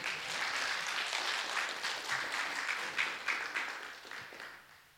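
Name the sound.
applause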